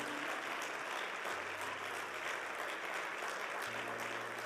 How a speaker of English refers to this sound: And I want you all to give him and his family a very great round of applause. We love you. We honor you all. Thank you for your leadership.